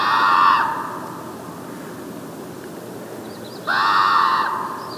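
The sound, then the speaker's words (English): Two loud, harsh common raven calls, being recorded on tape, one at the start and another a few seconds later, echoing out over a steady open-air hiss of wind across a salt marsh. “Sebastianelli stops to tape the calls of the raven, still echoing out over a salt marsh”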